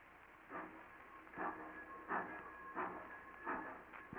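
A steam train chugs away from a station, its steady, evenly spaced chuffs of hissing steam repeating about every seven-tenths of a second over a low rumble, with no voices.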